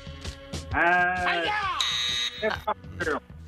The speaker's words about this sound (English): It was after the buzzer. Yeah, right after the buzzer.